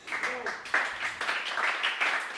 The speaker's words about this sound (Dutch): Applaus voor iedereen hier.